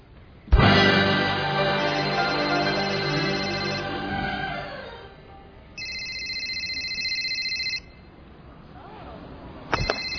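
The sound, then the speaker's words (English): A cell phone ringtone rings out loud during a funeral service: a shrill, steady electronic tone holding for about two seconds after a ringing chime fades, with another burst starting near the end. “Son, if that ain't Jesus calling, shut it off.”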